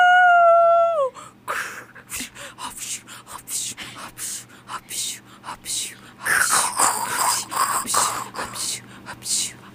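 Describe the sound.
A person imitates a dog as a sound effect in a public service announcement on WMFO, Tufts Educational Radio in Medford, opening with a brief falling howl and following with a run of breathy, barking-style bursts and gasps.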